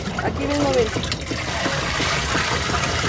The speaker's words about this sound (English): She fills her washing machine with water she scoops out of a huge blue plastic storage barrel.